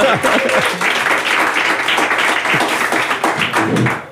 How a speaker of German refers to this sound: Jetzt darf man auch gerne klatschen, weil das ist ja ein Live-Podcast, genau.